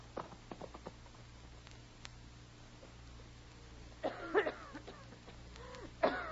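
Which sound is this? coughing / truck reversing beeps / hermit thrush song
coughing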